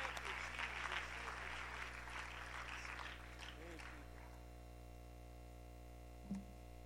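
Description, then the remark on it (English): An audience at a worship service applauds in praise, with dense, overlapping hand claps that swell and then fade out over a few seconds, leaving a steady low electrical hum underneath and a brief thump at the end. “Give them a hand clap of praise.”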